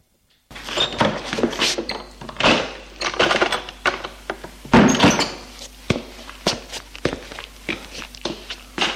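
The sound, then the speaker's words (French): Repeated sharp knocks on a wooden door, an irregular string of fairly loud thuds with brief rattles, continuing for several seconds with no voices. “On a frappé à la porte.”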